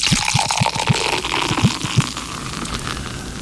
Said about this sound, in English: Now pour me a pint.